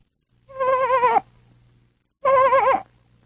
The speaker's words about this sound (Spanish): Era el balido de la ovejita. ¡Qué bueno!